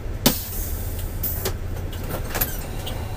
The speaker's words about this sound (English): After 3 hours, the bus pulls out of the Snake River Canyon and into the south end of Jackson. Commuters start getting out and head to work.